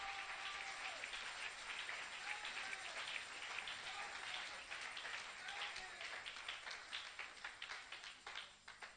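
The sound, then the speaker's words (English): An audience claps their hands in a loud, dense burst of applause with voices calling out underneath; toward the end the clapping thins into more separate, rhythmic claps. “I'll clap your hands, all you people.”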